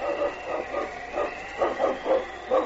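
Sled dogs barking in a quick, steady series of yaps, about eight sharp barks over a few seconds at moderate volume, with a faint wind-like hiss underneath and no talking.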